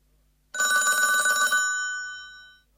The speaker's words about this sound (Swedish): Jag sov när telefonen ringde.